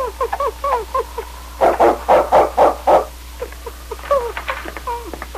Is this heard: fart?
no